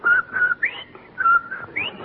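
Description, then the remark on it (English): Someone whistles a short, bouncy jingle melody, steady held notes broken by quick upward slides, with the phrase repeating twice. Clear and solo, with no talking. “Well, confidentially, after Von Zell left here, I saw him out on the porch and he was whistling and singing. Like this.”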